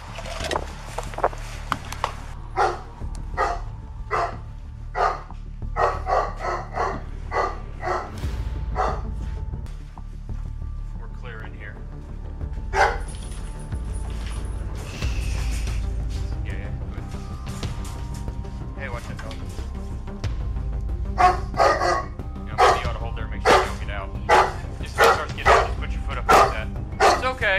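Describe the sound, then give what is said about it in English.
An agitated dog barks loudly and excitedly in an apartment being searched by police officers, the barks coming in rapid clusters with brief pauses, over a low rumbling background and occasional indistinct voices. “The officers searched the apartment for the suspect, but only found the owner's agitated dog barking loudly.”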